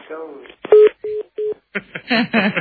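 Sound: telephone redialing tones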